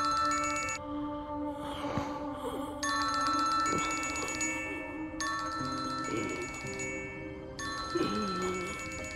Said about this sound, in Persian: چرا گوشی بر نمیداره؟